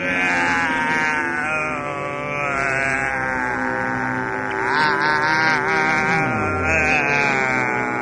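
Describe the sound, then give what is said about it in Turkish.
A loud buzz of a tiny fly drones steadily for about eight seconds, its pitch wavering and sliding slightly as the fly hovers. “Küçücük bir sinekle dönüşüyor.”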